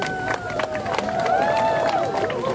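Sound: audience applause and cheering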